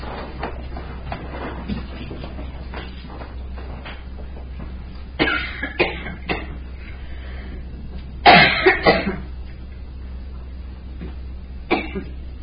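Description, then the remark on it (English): Several sharp coughs and throat clearing from a person having trouble with their throat come in short bursts, with a louder cluster near the middle, separated by stretches of quiet hum. No one speaks. “I have a cough drop here. I'm having trouble with my throat again.”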